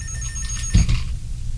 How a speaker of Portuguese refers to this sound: No dia seguinte, às 10 horas da manhã, o telefone do meu escritório tocou.